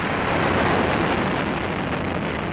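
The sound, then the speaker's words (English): A rocket engine roars at liftoff of John Glenn's flight, a dense, steady wall of rumbling noise that fills the low and middle range and holds loud without a break. No voices are heard. “begins and counting engines start.”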